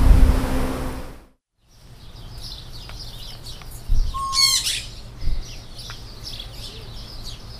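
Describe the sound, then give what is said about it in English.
A busy flock of birds squawks and chirps in an aviary at the back of the Robert Is Here fruit stand, with one louder, harsh squawk standing out among repeated bright calls over a low background hum. “In the back of Robert is here, there's an aviary with lots of birds in it.”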